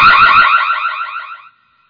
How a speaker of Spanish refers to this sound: En ese mismo momento se encienden todas las alarmas del cielo.